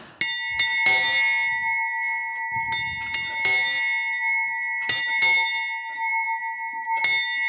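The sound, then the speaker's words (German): A large church bell with a Marian inscription and design is rung by hand by pulling its rope. It sounds in several resonant, loud strikes, each with a long sustained hum that lingers between hits, with faint shuffling and clatter in between. “Die Glöckner mussten ja früher die großen Glocken von Hand ziehen.”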